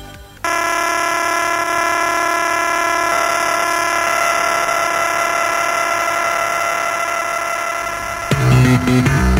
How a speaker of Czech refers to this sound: tako izgledalo galaksijno cvrčanje koje ste vi snimali na audiokasete, a zatim iste te kasete učitavali u svoje galaksije.